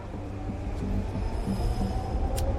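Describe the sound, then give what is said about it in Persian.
A train rumbles steadily along the rails, a continuous low roar with faint metallic hum and a brief sharp clank near the end. It is fairly loud, with no voices. The train runs on the same line as an earlier train and is bound for the same destination. “یه قطار دیگه از همون خط که مقصدش با قطاری که سوارش بودن یکیه.”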